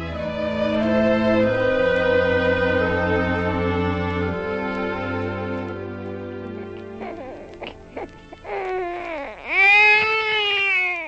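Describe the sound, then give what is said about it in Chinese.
Sustained, droning musical tones fade out, then a newborn baby boy lets out a single loud wail near the end, rising and falling in pitch. “哈娜，你生了个儿子，一个完美健康的婴儿啊！”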